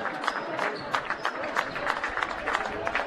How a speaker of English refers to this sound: A hand from the crowd.